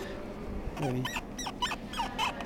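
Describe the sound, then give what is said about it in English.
Squeaking joints of Bagpuss, the saggy old cloth toy cat from television: a run of short, thin, high-pitched squeaks with wavering, bending pitch, preceded by a lower creak, all fairly quiet over a soft steady hiss. “Was that him squeaking just then? He's got rather squeaky joints.”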